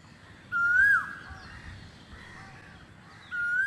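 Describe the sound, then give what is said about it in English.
A koel calls twice at breaking dawn, each a loud, clear whistled note, with fainter bird chirps and a low background rumble filling the gap between the two calls. “But the only sound I hear back is the koel bird cooing in the breaking dawn.”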